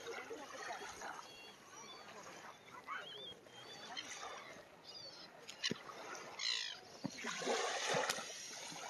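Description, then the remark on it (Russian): Something is thrown into water with a short splash, followed later by a fuller burst of splashing, heard outdoors over a steady, noisy background with faint voices. “Что-то в воду кинули.”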